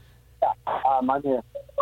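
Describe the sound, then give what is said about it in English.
A couple of short, flat electronic beeps sound on a phone line near the end, following a stretch of muffled, voice-like sound. “I just heard a couple of beeping noises.”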